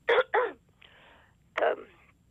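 A sharp sneeze bursts out in two quick gasping blasts, then after a short pause a second forceful sneeze follows, with no talking in between.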